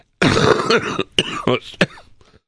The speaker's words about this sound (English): excuse me. Had a little cough there. Yep. Still getting over that a little bit.